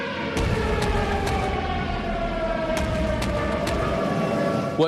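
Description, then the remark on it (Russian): An air raid alert siren wails steadily at the Maidan Nezalezhnosti metro station in Kyiv, Ukraine, its tone sliding slowly downward over a constant low rumble of background noise. “Вы сейчас слышите сирену? Да, я слышу сирену.”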